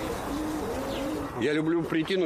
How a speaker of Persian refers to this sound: دوست دارم به این کبوترخانه بیایم و برای آنها غذا بریزم و آنها چهار طرف دور بزنند و جوجه هایشان غذا بدهند و غنبر کنند. من از دیدن آنها لذت میبرم.